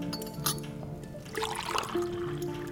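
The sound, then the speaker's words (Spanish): Cups and glassware clink lightly a few times amid a soft pouring trickle of liquid as coffee with sugar is served to guests, with no talking. “¿Quieren café? Ahí está el café y el azúcar para el agua.”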